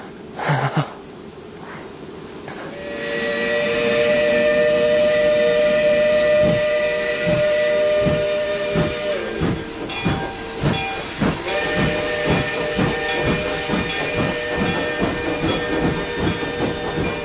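A steam train's whistle sounds long and loud over a wash of hissing steam, pausing briefly before sounding again, while steady rhythmic chuffing builds underneath: a special train sent by the railroad company leaving Vermissa's railroad station. No voices are heard.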